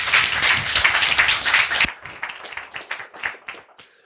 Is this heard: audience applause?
yes